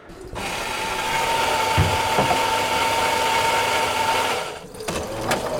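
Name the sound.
coffee machine running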